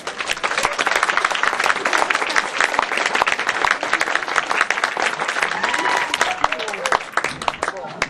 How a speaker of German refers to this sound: Und ihm gebührt jetzt einmal ein großer Applaus.